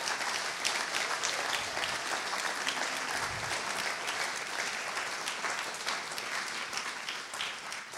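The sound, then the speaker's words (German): Sustained audience applause for a group of course participants at the front, a dense steady patter of many hands clapping at an even loudness for several seconds, with no voices standing out above it. “Das ist super cool und nochmal einen Applaus einfach für diese tolle Truppe hier vorne her.”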